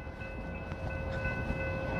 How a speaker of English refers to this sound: Oh, there's a train.